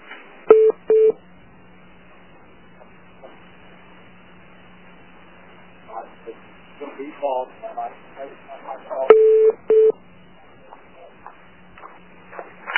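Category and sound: signal or alarm, telephone dialing tones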